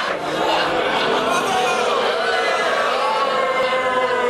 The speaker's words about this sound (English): Hey, you guys are booing now.